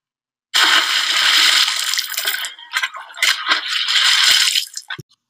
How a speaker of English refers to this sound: I had woken up because I heard some water moving in the creek that was just out from the end of our tent where our feet were pointed. So I was just opening my eyes and stretching when I heard a loud splashing sound.